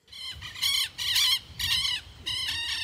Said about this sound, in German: Zwitschernde Vögel, Windrausch durch die Bäume. Etwa anderthalb Autostunden von Chiles Hauptstadt Santiago entfernt, auf dem Gelände ringsum lagern Rohstoffe.